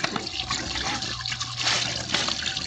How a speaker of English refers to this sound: I'm going to splash some water on my face.